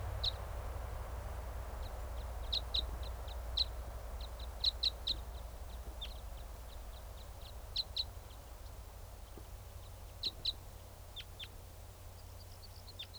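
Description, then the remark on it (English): Bird song made of short, high chip notes in quick clusters and scattered singles, two wild type 5 song birds calling back and forth, over a steady low rumble. “That was a type 5 song.”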